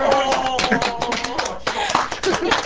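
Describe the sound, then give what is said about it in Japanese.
Several people clap steadily in a quick, dense patter of hand claps, fairly loud, with voices talking over the applause throughout, applauding a haiku that was just recited. “これ拍手で。”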